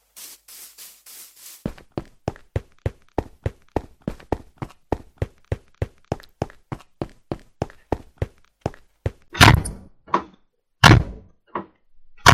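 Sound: door thudding shut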